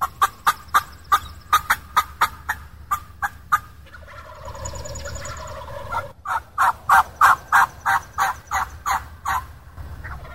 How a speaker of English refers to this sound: Where the second alfalfa field is, we call it. 10-12 big gobblers at the end of this field here.